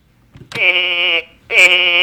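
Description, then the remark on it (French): A sheep bleats twice, loud, each call a long, wavering, nasal baa with a brief pause between them. “Ceci est un mouton.”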